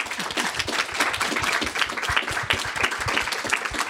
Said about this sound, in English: And we've had a wonderful panel, so let's have a big applause for our speakers.